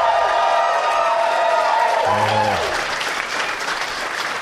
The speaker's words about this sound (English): My applause better be bigger than that.